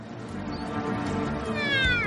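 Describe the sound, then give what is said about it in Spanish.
Calls of migratory orcas exchanging calls after catching prey: high, whining harmonic squeals that bend in pitch, several overlapping over a dense, steady rush of background noise, with one sweeping call rising clearly near the end. “Las orcas migratorias ahora celebran su captura e intercambian abundantes cantos.”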